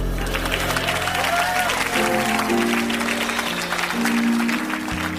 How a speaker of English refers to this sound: He's a hero, Lane Gemini. A hero. He deserves your applause.